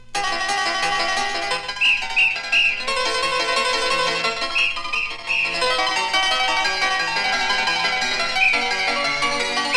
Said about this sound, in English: He chased that thief the whole town through, and at every corner his whistle he blew.